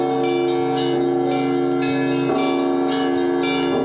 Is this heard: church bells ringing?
yes